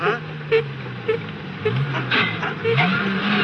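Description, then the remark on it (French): A car engine that has run out of petrol sputters and coughs in uneven bursts, struggling, with a droning motor tone and some voice-like sounds mixed in. “C'est pas moi, patron, c'est le moteur.”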